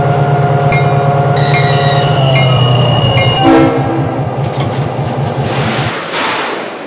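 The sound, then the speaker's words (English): A North Jersey Coast Line passenger train, number 3318, rumbles steadily along the rails with a loud, rhythmic clatter of wheels, with a brief horn-like tone early on and the rush fading into a broad hiss. “the North Jersey coastline, train number 3318.”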